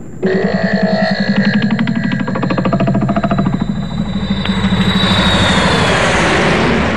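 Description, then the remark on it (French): A steady, loud airplane engine drone fills the cabin, a dense low rumble with a pulsing propeller-like beat and a faint high whine running throughout, with no voices. “Ah, je profite du fait que nous soyons dans l'avion pour vous dire un truc super important.”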